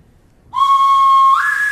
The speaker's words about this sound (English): Then, a little before noon, Captain Smollett gave an order. The boatswain sounded his pipe.